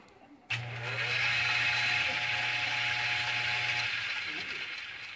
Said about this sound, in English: Well, I'm going to do another experiment with matter and time and energy, but this time it's a frog and a blender. And I'm going to add some energy by turning the switch on.